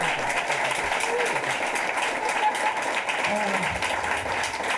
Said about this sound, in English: can we just give you a round of applause for that great story?